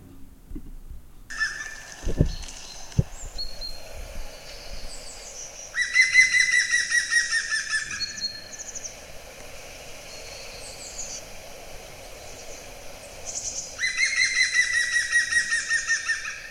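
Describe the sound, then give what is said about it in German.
A woodpecker calls twice, each a loud, rapid series of ringing notes lasting about two seconds, with softer birdsong chirping throughout the background and no one talking. “Ja, und das Besondere ist eben, dass Spechte ja Spechte ja eigentlich anders kommunizieren, also Buntspecht zum Beispiel und die anderen Arten, die trommeln ja”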